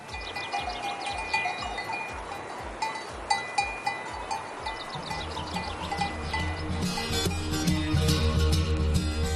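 Many cowbells clank and jingle continuously while sheep bleat throughout, a flock of about 1000 sheep out on a walk with their shepherd in Soria, Spain, growing denser and louder with overlapping bleats toward the end.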